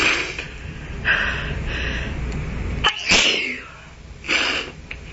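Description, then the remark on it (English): A person sneezes several times in succession, loud, with short pauses between the explosive bursts and no talking. “I don't even sneeze that often, really.”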